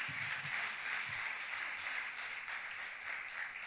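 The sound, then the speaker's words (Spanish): A church audience applauds the Lord steadily during a sermon, a dense wash of many hands clapping together at once, sustained and fairly loud throughout with no voices standing out. “Dale un aplauso al Señor si se lo vas a dar.”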